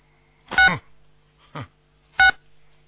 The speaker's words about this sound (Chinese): 这什么声音啊？你电话不要去碰啊！你们电话是不是分机啊？